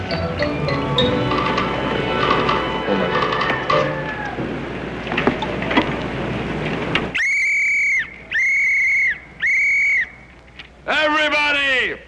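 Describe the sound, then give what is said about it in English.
Noisy background chatter gives way to three loud, steady whistle blasts of about a second each, followed by a shorter warbling blast, all piercing. “Let me have my whistle. You gotta give them the whistle treatment.”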